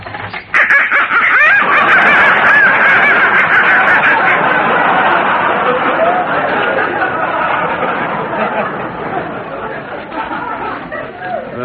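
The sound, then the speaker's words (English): A crowd of live ducks in a basement quacking and squawking all at once, a loud, dense, overlapping clamor that carries on steadily for several seconds, with no voices. “Now, look, that noise came from some live ducks I've got in the basement.”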